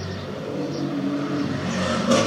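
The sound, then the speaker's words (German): A car drives along a residential street past a balcony in fine weather, its engine hum and tire noise steady, then swelling louder toward the end as it approaches. No one speaks. “Und wenn dann doch mal eine Autokolonne kommen sollte oder ein sehr lautes Fahrzeug, dann werde ich einfach mal kurz pausieren beim Reden, habe ich gedacht.”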